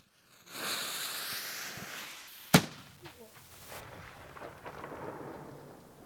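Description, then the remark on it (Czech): A single sharp gunshot from a hákovnice, an old arquebus-type firearm loaded with black powder and fired by lighting a fuse, cracks loudly, then rolls away in a long echoing rumble that fades over several seconds amid faint outdoor hiss. “Slyšeli jste tu ozvěnu a to byla jenom hákovnice.”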